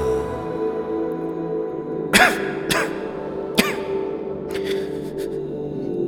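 A few sharp coughs, three or four bursts spaced unevenly over a couple of seconds, fairly close and loud, over a steady low musical hum.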